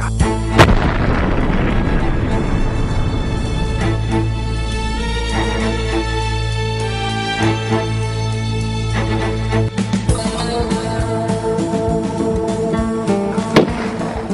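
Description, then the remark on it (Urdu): Aircraft are blown up on George Habash's orders after the passengers were freed: loud explosions roar over a continuous low rumble, with sharp booming blasts standing out near the start and again toward the end. No one speaks. “آخر میں جارج حبش مسافروں کو آزاد کرنے پر راضی ہو گیا, لیکن اس نے جہازوں کو دھماکے سے اڑا دیا.”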